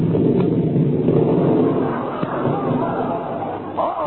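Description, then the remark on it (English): A deep, rolling rumble of thunder, loud and sustained, swells and lingers across the whole stretch with no break, heavy in the low end. “Oh, my goodness, don't tell me it's going to rain now.”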